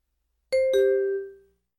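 A school bell chimes two descending tones, ding-dong, clear, with the second note ringing out and fading away, marking the time for class. No voices or other sounds accompany it.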